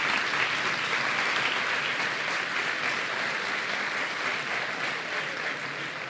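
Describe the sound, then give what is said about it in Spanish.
Steady applause from a crowd at an awards ceremony for the nominees of the Actualidad y Sociedad category, Carne Cruda, Días Extraños and La Contra Crónica, a dense continuous clatter of many hands clapping at a fairly even level for several seconds, with no talking over it. “Un aplauso para los nominados.”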